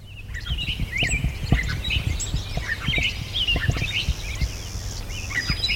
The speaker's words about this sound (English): Oh, clay-colored sparrow. Yes. Are we still at Dinosaur? I feel like we've moved, maybe, or maybe not. No, we're still at Dino.